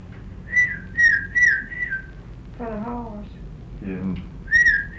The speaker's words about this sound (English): I usually just whistle at a horse, eh?